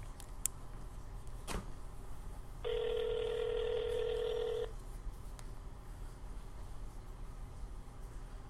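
signal or alarm, phone ringing on speakerphone

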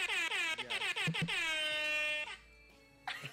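signal or alarm, air horn blast

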